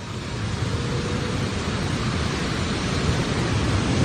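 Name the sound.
ocean waves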